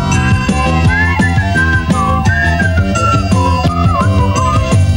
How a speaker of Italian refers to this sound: Che ti fa venire da fischiettare?